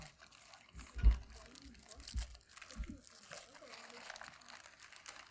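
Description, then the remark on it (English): Paper packaging of gifts is unwrapped and crumpled, a steady stream of crinkling and rustling with a couple of sharper crunches, while voices murmur in the background. “Give me your paper. That's fancy paper. Look what he did to it.”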